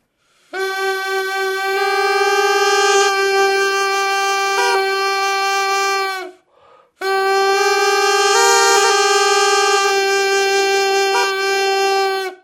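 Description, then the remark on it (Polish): An Indian snake charmer's reed pipe, called a ben, made of coconut with two mouthpieces inside and finger holes, plays two long, loud, unbroken phrases over a steady buzzing drone, with small shifts in the melody note and a brief pause between them. “Teraz jakbyśmy na przykład wzięli go zmontowali ten instrument, to mamy tutaj przebierkę i mamy dźwięk burdonowy.”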